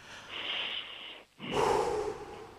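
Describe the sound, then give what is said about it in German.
A long, deep inhale through the mouth, a brief pause, then a loud, breathy exhale, as several people breathe in and out together after a count to three, with no talking. “Sollen wir nochmal gemeinsam richtig tief durchatmen?”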